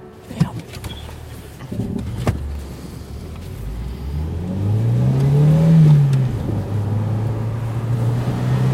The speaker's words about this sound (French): le mec, il s'est installé côté conducteur et il s'apprête à partir. Et il part même, il démarre, j'ai l'impression. Oui, il démarre.